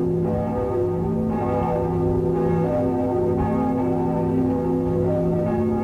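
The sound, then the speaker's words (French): Church bells ring continuously, their overlapping tones blending into a dense, sustained wash of sound that stays steady and fairly loud throughout, with no voices present. “Tout à coup, on entend les cloches.”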